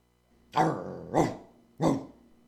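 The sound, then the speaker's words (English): A dog named Spot barks three times in quick, evenly spaced bursts, with a low growl rumbling between barks; fairly loud, with no talking. “Spot, are you mad that there are no dogs in WGXC?”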